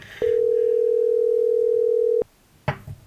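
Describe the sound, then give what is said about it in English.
A loud, steady telephone dial tone hums for about two seconds, then cuts off abruptly, followed by a brief click or keypress beep as dialing begins to call someone. No voices. “Let's see if we can't pull it off and get Scott on the phone.”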